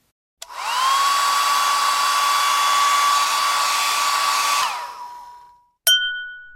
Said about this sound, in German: Das andere war ein Föhn